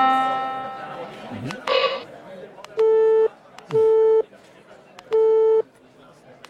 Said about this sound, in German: Ich mache jetzt was anderes. Ein Tropfen, ein Gong.